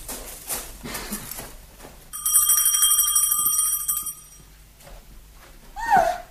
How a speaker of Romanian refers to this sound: Vedeți acolo pe balcon, între mușcate, e clopoțelul. Sunați, sunați.